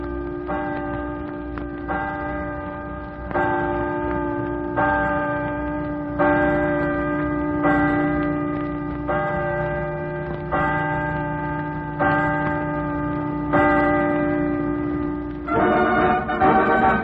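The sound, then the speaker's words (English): Large campus chimes at the University of Washington in Seattle ring 12 o'clock noon, pealing out across Lake Washington in a steady series of deep, resonant bell strokes, each tolling about every one and a half seconds and overlapping in a sustained, clear peal with no talking. “I'd get a wonderful thrill if the chimes on the campus of the University of Washington at Seattle would ring 12 o'clock noon for me.”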